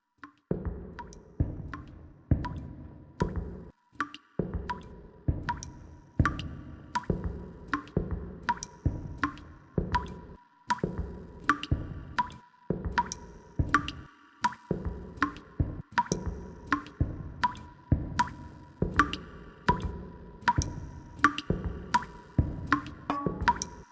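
Water drips steadily from a leaking pipe, a quick run of hollow plinks and plops about two per second, with a faint wet echo and no voices.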